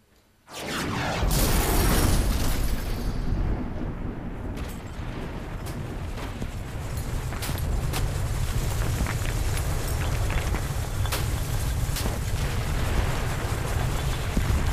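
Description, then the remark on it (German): A sudden, loud thunderclap explodes and booms through a house, rolling into a long, heavy rumble, with scattered rattling and clinking of window glass running through the roar. No voices are heard. “Ein entsetzlicher Donnerschlag dröhnte durch das Haus. Die Fenster klirrten, der Kronleuchter schwankte, die elektrischen Lampen verloschen.”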